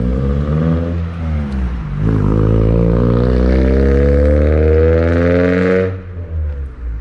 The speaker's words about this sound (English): All these cars driving around.